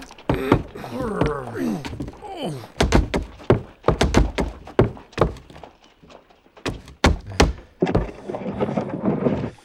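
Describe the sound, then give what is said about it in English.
A heavy strongbox is carried by a driver and a station master into an office and set down, with a series of loud, irregular thuds and bumps, while voices murmur and grunt at the start and end. “The strong box was heavy, and the driver helped the station master carry it into the office.”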